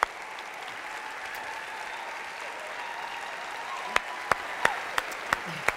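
A crowd claps steadily in a dense, even wash of applause, and toward the end several sharp, louder claps stand out above the rest at a quick, irregular pace.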